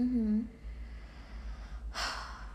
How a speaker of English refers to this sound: Mm-hmm. I'm just gasping.